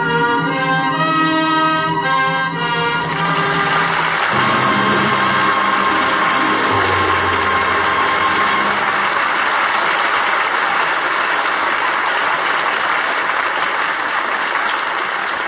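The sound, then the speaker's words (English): A closing musical chord ends a performance of Anna and the King of Siam starring Irene Dunne and Rex Harrison, ringing out for a few seconds, then loud, sustained audience applause takes over and continues steadily as a dense wash of clapping to the end. “That well-deserved applause invites a curtain call.”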